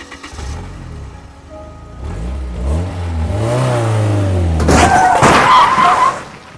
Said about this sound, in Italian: come quella volta che misi in moto l'auto della mamma per provare a guidare.